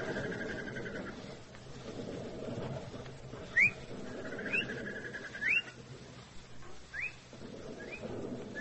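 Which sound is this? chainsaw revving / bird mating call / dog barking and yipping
bird mating call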